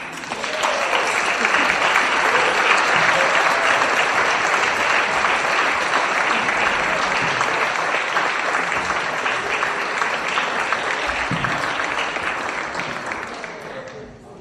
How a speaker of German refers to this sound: Und ich würde mich freuen, wenn die Hauptamtlichen jetzt nach vorne kommen, wenn sie unseren Hauptamtlichen auch mal einen dicken, fetten Applaus spenden.